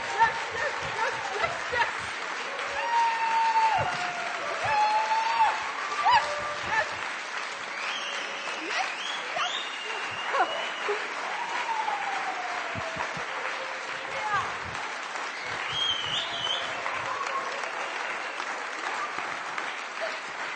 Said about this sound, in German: Und jetzt ihr, aufstehen, jubeln.